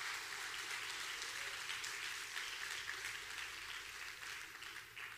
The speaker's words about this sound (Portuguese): Aplaude ao Senhor nessa tarde. Está fraco, mas forte.